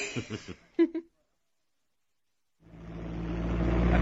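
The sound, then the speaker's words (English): Brief voices are followed by a pause, then a car parked outside roars into life and accelerates hard, its steady, rumbling drone growing louder to the end. “I've got my car outside.”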